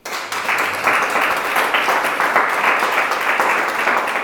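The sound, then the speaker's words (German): A crowd claps steadily in sustained applause for God, a dense wash of many hands at fairly even loudness, filling the whole moment without any talking over it. “Gebt Gott doch mal einen Applaus.”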